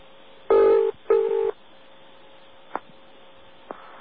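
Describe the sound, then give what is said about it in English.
Telephone dialing tones from dialing an old five-digit Brighton telephone number: two sustained electronic beeps, each under half a second, followed by two brief faint clicks over a low, steady hum. No one speaks. “Well, listen to what happens if you dial the old 5-digit number.”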